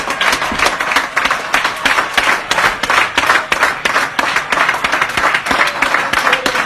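A church audience applauds steadily, giving applause to the Lord in the evening: a dense, continuous wash of many hands clapping with no pauses, loud and sustained throughout, with no one speaking over it.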